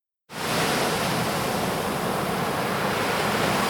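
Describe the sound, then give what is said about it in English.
A steady, full roar of ocean surf begins abruptly and holds at an even level without distinct individual breakers, a continuous wash of waves with no voices. “Now this is the life, lounging in the sun, listening to the soothing sounds of the ocean, collecting colorful seashells.”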